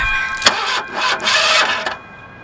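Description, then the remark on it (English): A car engine cranks with a grinding, whirring starter noise in a couple of bursts, fairly loud, but never catches before falling quiet; the run-down car has no gas in it. “What the fuck's up with my shit? You didn't put no gas in this raggedy motherfucker.”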